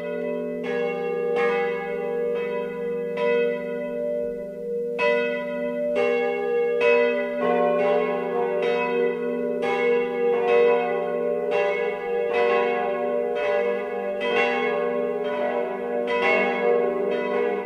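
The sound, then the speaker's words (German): Several bells of the parish church Mariä Himmelfahrt in Ranoldsberg, Upper Bavaria, peal together for the noon ringing in a steady, overlapping rhythm, their strikes ringing out loud and full with a long resonant hum beneath; no voices, just continuous ringing. “Das Mittagsläuten kommt heute aus der Pfarrkirche Mariä Himmelfahrt in Ranoldsberg in Oberbayern.”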